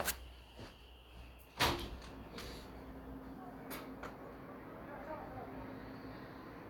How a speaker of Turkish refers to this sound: Ya bu kapı çalıyor.